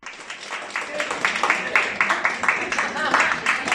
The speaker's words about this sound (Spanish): Y los cines y el modelo Rosales han dicho adiós tras 27 años. Este era el último aplauso de su personal.